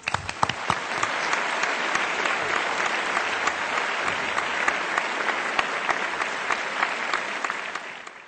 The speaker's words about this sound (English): Let's give a warm applause to welcome Spring Melody Chorus.